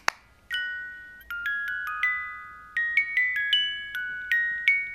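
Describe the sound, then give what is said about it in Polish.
Clocks chiming in a bright, overlapping cascade of bell-like tones, a dozen or so strikes ringing out at an uneven pace and lingering as they decay, with no one speaking. “A zegary...”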